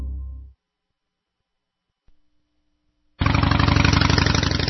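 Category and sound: vehicle, loud motorcycle engine revving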